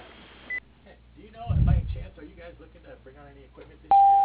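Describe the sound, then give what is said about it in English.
A voicemail beep: after brief muffled talk, a loud, steady electronic tone starts abruptly near the end and holds. A tiny high blip sounds near the start. “Please leave a message after the beep, and I will get back to you as soon as possible.”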